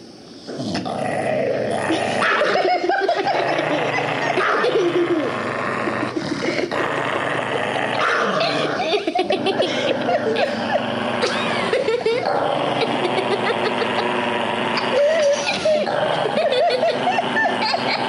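In a home video, a dog growls and snarls while biting itself, loud and nearly continuous for the whole stretch, with sharp snapping bursts and occasional whiny yips breaking through the rumbling.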